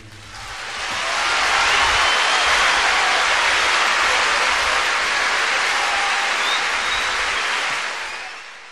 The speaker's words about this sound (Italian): Ho voluto lasciare anche gli applausi alla fine perché fanno parte, come dicevi tu, dell'incontro, dell'evento. Sì, esatto, di questo evento con 200.000 persone sotto la Torre degli Asinelli.